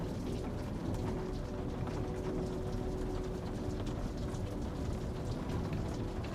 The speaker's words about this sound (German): Das vertraute Geräusch des Regens, das gegen die Fensterscheiben prasselt, begrüßt dich.